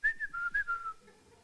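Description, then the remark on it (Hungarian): A person whistles a short, bright tune of about five quick notes that step slightly up and down, clear, fading away within a second and a half with no talking, as Moses walks past the people whistling. “Mózes meg elmegy, fütyülve mellettük.”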